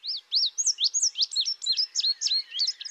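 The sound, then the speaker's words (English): An indigo bunting sings a bright, rapid song of high, sweet chirps and slurred notes, about a dozen quick phrases in steady succession, clear with no other sounds. “indigo, like the indigo bunting bird.”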